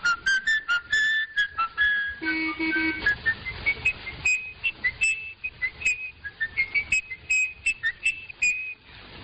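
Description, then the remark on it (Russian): A man whistles a menacing tune alone, the killer's melody from Fritz Lang's 1931 film M, starting with sustained, wavering notes and moving into quick, clipped phrases, clear over a faint low background rumble. “Убийца, который бродит в городском лабиринте, и опознать его можно лишь только по той мелодии, которую он насвистывает.”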